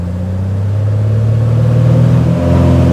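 A 1968 Cessna propeller plane's engine roars at full power for takeoff at Cushing, a loud, steady low droning hum with layered harmonics that swells and climbs slightly in pitch toward the end; no voices.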